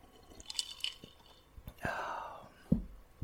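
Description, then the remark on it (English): A quiet sip of a drink: a few small clicks, a brief airy slurp, then a soft gulp or thud of the cup being set down, with no talking. “Before we get started, let me take a sip of this real quick.”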